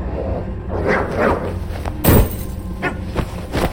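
dog growling and barking

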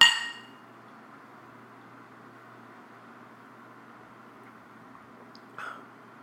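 glasses clinking

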